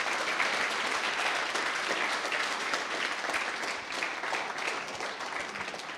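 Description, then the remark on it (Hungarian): Steady applause from an audience rewarding the speaker after a lecture on radio telecommunications fills the whole stretch, a dense crackle of many hands clapping at even loudness with no voices standing out. “Köszönjük szépen, és egy tapsal jutalmazzuk meg az előadónkat.”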